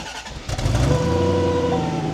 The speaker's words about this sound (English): Here, you start it up, and I'll get the exhaust note, and you can show them the instrument cluster.